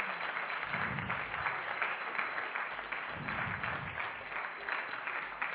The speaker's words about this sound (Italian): E facciamo un applauso a Gesù.